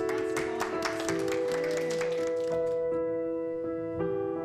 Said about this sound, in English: Another round of applause for you guys.